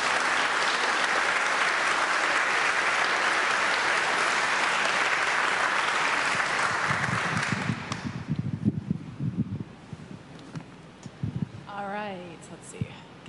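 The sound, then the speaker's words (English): A crowd claps steadily and loudly for about eight seconds for the people who do wonderful things at St. Columbus, then the applause dies away into scattered voices and murmuring. “And please give them a round of applause.”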